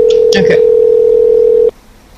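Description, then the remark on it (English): A steady, loud telephone dial tone hums continuously for under two seconds before cutting off abruptly, with a brief burst of clatter or muffled voice near the start. “I'm going to congratulate this guy on his new phone.”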